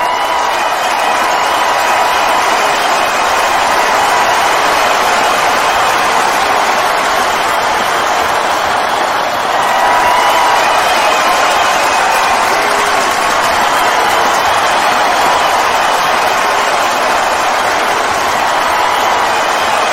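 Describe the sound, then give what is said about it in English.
A large crowd cheers and applauds steadily for about twenty seconds, a dense, loud wall of clapping and shouting voices with a slight swell midway through. “I'm going to play the crowd cheering again for ZZ Bot.”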